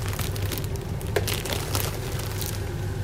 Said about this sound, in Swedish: Häng med nu väldigt noga, för jag klipper upp ett hörn här på pyttipanna. Om det hörs dåligt så är det för att jag kan inte hålla micken och klippa upp pyttipannan samtidigt.